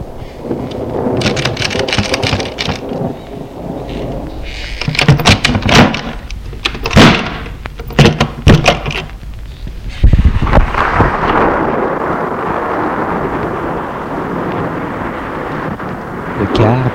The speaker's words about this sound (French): J'ai été pris par l'orage. La grande porte de bois s'ouvre.